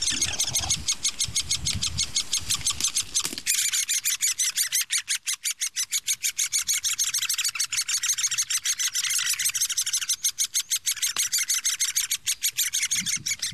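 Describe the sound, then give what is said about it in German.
High, rapid begging calls from at least three nestling birds in a tree hole in an oak at eye level, a dense continuous chorus of shrill pulsing cheeps that stays loud throughout, with a brief low rumble near the start. “Außer, dass die Bettelrufe lauter werden. Also, ich stehe hier auf Augenhöhe, ist die Höhle in einer Eiche.”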